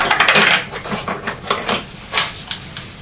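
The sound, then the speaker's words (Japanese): A metal cooking pot is handled, with a series of clanks and scrapes at an irregular pace, a clustered burst at the start and sharper knocks later on. “うん、そう、鍋でしょ。”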